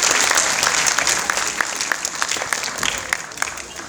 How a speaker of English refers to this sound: Dear parents, the students standing in front of you here, this is their last moment to enjoy Academy School of Excellence. Please, I would like you to give a hand of applause and again, because of how long it is I've come here to you.